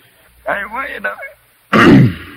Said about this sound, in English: See, just clear your throat real good, then you can keep right on.